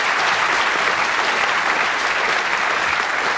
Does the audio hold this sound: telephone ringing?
no